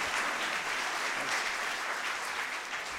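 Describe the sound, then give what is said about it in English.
An audience at Kindlings Fest claps steadily to welcome a guest speaker, a dense wash of many hands applauding at an even, fairly loud level that tapers slightly toward the end, with no voices over it. “Would you give a round of applause to H. Spees?”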